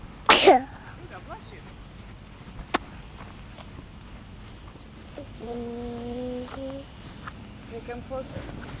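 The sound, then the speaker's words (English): One sharp, forceful nose blow into a tissue at the very start, followed by quiet background noise and some faint, drawn-out vocal tones later on. “I'm blowing my nose. Okay, I've got a tissue over here.”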